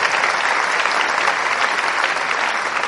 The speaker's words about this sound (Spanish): Me hacen el favor, los que tengamos más de 25 años, vamos a darle un aplauso a los que tienen menos de 25, porque estamos felices de verlos aquí.